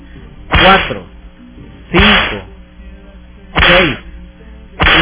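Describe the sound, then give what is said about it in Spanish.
Four loud lashing strikes, like a belt hitting, land at a steady pace roughly a second and a half apart, part of a counted series of twelve lashes, with a faint background hum between them and no talking. “12 latigazos, ¿verdad? Así, como decía el Papa”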